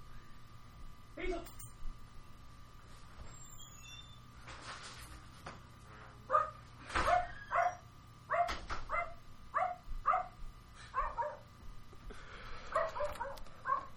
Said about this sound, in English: Do you want to go outside? I'm going to let this dog out. That one bark was a yes.